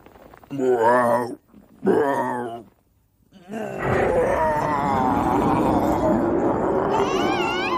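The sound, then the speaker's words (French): Totoro's growl from Miyazaki's animated film My Neighbor Totoro: two deep, drawn-out groaning growls, a short pause, then a long, loud, rumbling roar with swooping tones that swells and sustains to the end. “Le grognement de Totoro pour accueillir mon invité, puisque cette grosse bestiole adorable sera à l'honneur cet été.”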